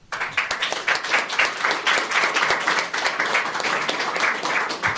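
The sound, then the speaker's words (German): A crowd applauds steadily for several seconds, dense overlapping claps forming a continuous loud patter with no talking over it. “Großer Applaus.”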